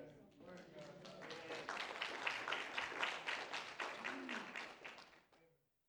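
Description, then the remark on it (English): An audience breaks into applause lasting about five seconds, dense clapping with voices murmuring and calling out underneath, swelling in the middle and then tapering off quickly to silence. “If you're married 52 and you clap, God bless you.”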